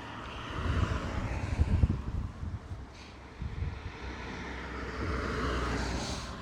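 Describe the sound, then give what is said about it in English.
Gusty wind buffets the microphone outdoors on a sunny day while a car's steady tyre-and-engine rush grows louder toward the end as it passes along a country road at a crossroads by the entrance to a farmer's field, with no voices. “Occasional cars going past,”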